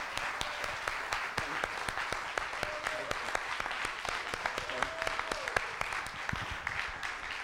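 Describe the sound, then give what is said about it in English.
A crowd at a sermon claps hands together in praise of the Lord, a dense, sustained applause of many overlapping claps with scattered voices murmuring underneath, lasting several seconds. “Thank God, somebody who's been forgiven of your sins, would you just give the Lord a hand clap of praise and thank you.”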